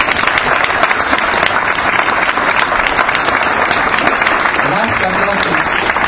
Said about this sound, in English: I would like to take this opportunity to thank every single member of my co-executives for the hard work they put through, every single member of the CSU staff and volunteers for making this event a success. Please a round of applause for them.